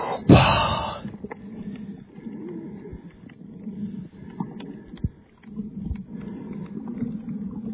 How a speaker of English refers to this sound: And watch me go underwater. You hear me breathing? Sound like Darth Vader, huh?